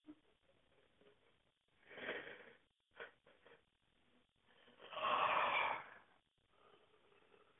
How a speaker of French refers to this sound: Je vais tout d'abord respirer profondément autant de fois que je le jugerai nécessaire et même bâiller si j'en éprouve le besoin.